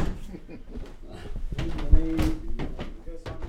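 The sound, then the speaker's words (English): A narrow door to a cramped spiral staircase in a building's dome creaks open with a drawn-out squeal and a dull knock partway through, over a busy background of murmuring voices and rustling movement. “Poff opens a narrow door to a cramped spiral staircase”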